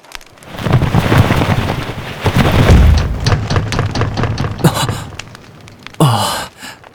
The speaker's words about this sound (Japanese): 驚いた。嵐で鳥が窓にぶつかったのか。